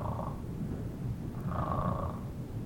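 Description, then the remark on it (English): Steady snoring with a low, rough rattle that continues throughout, swelling in two breathy pulses, one at the very start and a longer one near the middle. No voices. “Somebody walk in the room, he's snoring, you look up, there, not yet. But they hear you snoring.”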